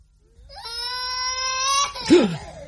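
small child crying

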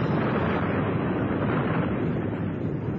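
volcanic eruption explosion

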